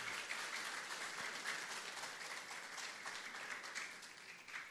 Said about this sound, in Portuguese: uma salva de palmas para o nosso ator fabuloso.